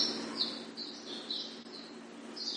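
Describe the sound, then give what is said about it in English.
Birds chirp in a steady series of high, bright calls, fairly faint, over a constant low background hum with no voices. “Well, the birds sound nice to me, but maybe they're in some huge fight, pecking at each other, trying to, like, you know, get one mate, steals one mate from another.”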